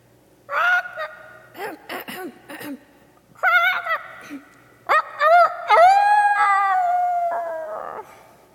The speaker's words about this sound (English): After that, no one had any doubt that young Mr. Rooster knew how to crow, not even Mr. Rooster himself.